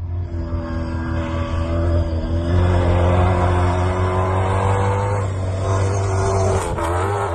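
Fernando Alonso drives his Toyota Hilux rally car at full speed in training at Pep Vila's estate in Manresa; the engine roars loudly for several seconds, its harsh tone holding steady, then rising and shifting as it revs hard, with no voices over it.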